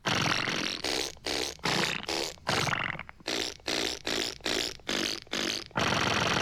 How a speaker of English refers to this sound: A bourrée of blasts. Or you just want to tell the world that there's a song in your fart.